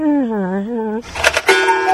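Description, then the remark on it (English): A cuckoo clock call: a sustained, wavering tonal note with rich harmonics for about a second, followed by a burst of bright, clattering chimes and ringing tones. “That's a freaking cuckoo clock, you jackball. It ain't no peacock.”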